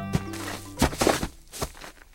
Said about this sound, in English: That's the American crow's rattle call. It's uncommon, and researchers aren't sure what it means.